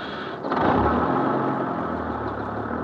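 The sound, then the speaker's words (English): A bus engine rumbles at idle, then surges louder after a brief moment and holds a steady, heavy drone as the vehicle pulls away. No voices are heard. “Come on, folks, back on the bus.”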